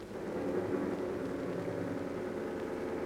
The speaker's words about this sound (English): It is the morning of December the 30th. Two men are in a speeding car.